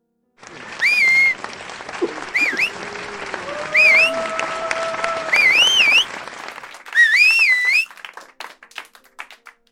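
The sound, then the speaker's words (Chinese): A group of male students at a boys' school whistles loudly, with five or so sharp, swooping whistles rising and falling in quick bursts over a noisy backdrop of crowd clamor and clapping, then the noise trails off. “你看我的学生们多热情，都吹起口哨了，这些男孩子都是青春旺盛的小伙子呀”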